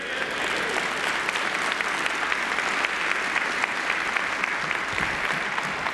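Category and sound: crowd, audience clapping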